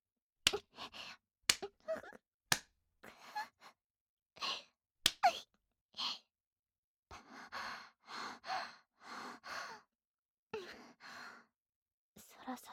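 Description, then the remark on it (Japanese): Several sharp slaps land at irregular intervals, interspersed with breathy sighs and soft gasps, with a short stretch of heavier breathing in the middle. “ほら、叩いて、寸止めクリチンポ、ビンタして。”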